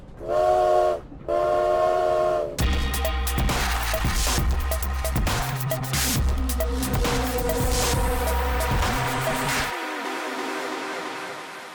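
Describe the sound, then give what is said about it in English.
Two long, loud train whistle blasts, then a steady rhythmic chugging and clattering of a moving train arriving in Moscow, which cuts off and leaves a fading rumble. “They're disembarking off the train in Moscow.”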